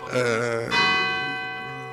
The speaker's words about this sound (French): Ce que je peux dire, c'est que on attend la fin des cloches, ou si je parle assez fort, c'est bon. Ça doit passer. C'est 7 heures. J'aime bien les cloches, moi, ça me dérange pas.